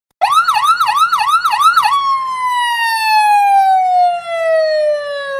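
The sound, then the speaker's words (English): A loud ambulance siren at a night-time accident scene warbles in a rapid yelp for a couple of seconds, then shifts into one long, slowly falling wail, with no voices present. “The Nicety's looked for the ambulance, but couldn't see above, under, or through the small crowd.”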